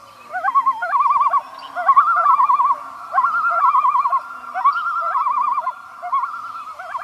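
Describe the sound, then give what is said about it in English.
A common loon gives eerie, wavering wails in a series of loud, quavering phrases with brief gaps between them, ringing out clearly with no one talking. “And the eerie wailing of the common loon.”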